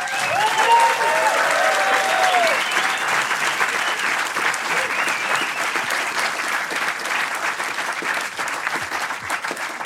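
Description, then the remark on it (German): Sustained applause from a sizable audience fills a hall after a film screening, dense clapping continuing steadily for the full length, with a few whistles and cheers rising near the start. “wenn ihr wollt, machen wir mal kurz einen Applaus.”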